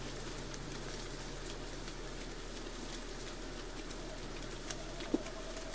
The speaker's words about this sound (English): So again, a little bit quiet. So hopefully the people out there listening can hear that. But it's called a bouncing ball call, and it's this accelerating.